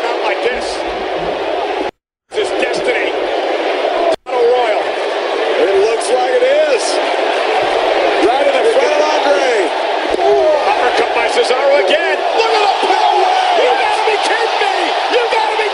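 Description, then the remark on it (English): A large wrestling arena crowd roars and cheers loudly and continuously as a wrestler picks up the Big Show, with overlapping shouts and whoops, cut by two brief silent gaps near the start before the roar carries on steadily. “All right, I think the bigger pop, though, is when he actually picks up the Big Show, so just start from there.”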